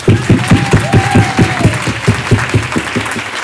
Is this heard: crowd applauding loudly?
yes